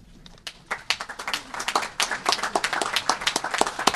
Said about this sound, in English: Now, let's applaud for this remarkable achievement. Thank you.